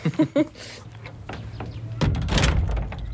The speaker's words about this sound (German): Tür zu.